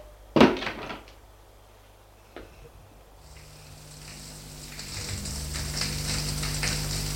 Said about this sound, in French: Une porte, des pas, une autre porte,